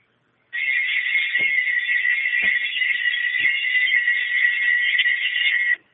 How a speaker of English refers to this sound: when you hear that, the children will think, "Feast of Tabernacles bells," when they hear that sound.